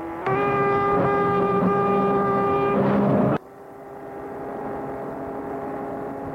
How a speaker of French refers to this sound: Prennent la route, chacun dans leur voiture. Bernard la suit jusqu'à Lyon, puis la klaxonne.